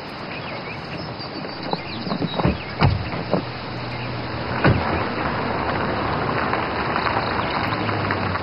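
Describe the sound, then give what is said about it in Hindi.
A car door opens with a few sharp mechanical clicks and a dull clunk, over the steady low hum of a vehicle interior. “दरवाजा खोलो।”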